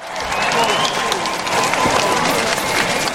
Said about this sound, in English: A crowd gathers in Chemnitz city square.